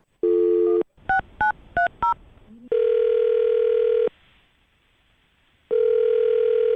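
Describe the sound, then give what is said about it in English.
A steady telephone dial tone breaks off for four quick, evenly spaced dialing beeps, followed by a short pause, then long ringback tones with a silent gap between them, with no talking, as a host of the radio show Brooke and Jubal in the Morning dials a woman's phone number. “All right, well, I'll dial her phone number right now, see if we can get her on the phone and get your second date update.”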